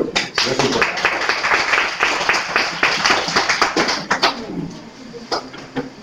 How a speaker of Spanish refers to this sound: Y la verdad que se merece un aplauso. Aunque no lo oigan, yo me gustaría que se lo digáis.